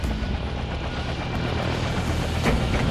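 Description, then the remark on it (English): A helicopter's rotor keeps thumping after it sets down lightly in the center of a helipad, a loud, steady whir with a low pulsing beat that fills the whole moment, with no voices. “We set down light in the center of the helipad. Several other desert camo helicopters were tied down around us.”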